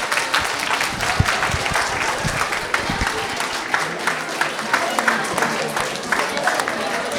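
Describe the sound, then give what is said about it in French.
An audience applauds the participating students of Collège Georges de la Tour, winners of a prize with RCN, steadily: a dense wash of many hands clapping at a fairly loud, even level for several seconds, with a few sharper claps standing out. “Vous pouvez applaudir tous les élèves participants, s'il vous plaît.”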